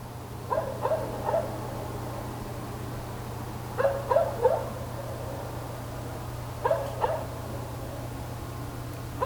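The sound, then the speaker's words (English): Far-off dogs bark in short clustered bursts of two or three, separated by pauses, over a steady low hum and quiet nighttime ambience. “Night distant dogs bark, crickets, parents, owl screech, car passing, dot wave.”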